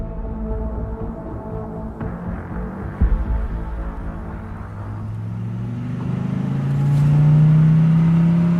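A car engine idles with a steady low rumble, then revs up, its pitch climbing and growing louder toward the end, with a brief knock partway through. No one speaks.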